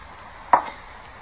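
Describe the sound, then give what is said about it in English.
A single sharp slap across a man's face delivered by a woman: one loud, crisp smack that decays quickly, standing alone over a quiet, steady background hiss with no voices. “She slapped me.”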